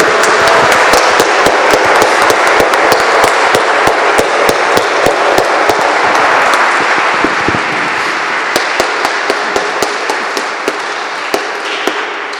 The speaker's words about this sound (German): Jetzt einen kräftigen Applaus für die Musik, die war halt spitze.